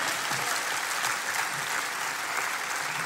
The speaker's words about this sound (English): You were clapping all over the place. Why don't you just start praising God for you right now and just clap your hands and just get happy.